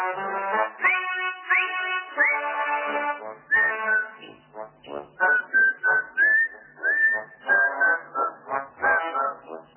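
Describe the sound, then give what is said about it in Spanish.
People whistle a lively, march-like tune together in cold weather, with a steady rhythm of short phrases and sustained notes, moderately loud, and no talking over it. “Pero hay que chiflar, con este frío hay que chiflar”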